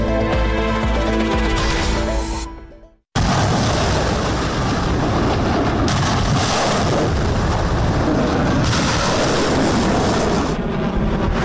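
Artillery fire during Chinese military exercises in the Taiwan Strait: a dense, roaring barrage of booms and rumble lasting several seconds, preceded by a brief stretch of tonal music that fades into a moment of silence.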